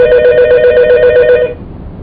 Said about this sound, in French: Quand le téléphone a sonné, tu es en train de m'expliquer ce que c'est.